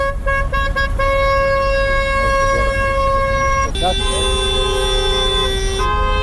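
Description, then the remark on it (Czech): Several car horns blare in long, overlapping blasts, one held tone giving way to another partway through, loud over a steady rumble of street traffic, as a convoy of nearly 100 taxi cars drives through the streets of Podgorica at noon in a taxi drivers' protest. “Blizu 100 automobila kretalo se u koloni ulicama glavnog grada u podne kada je počela protestna vožnja, čiji su učesnici još jednom pozvali nadležne da riješe problem divljih taksista.”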